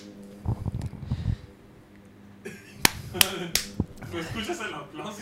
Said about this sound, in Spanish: ¿Me escuchas el aplauso?